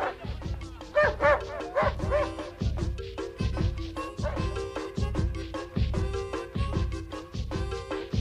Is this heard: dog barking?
yes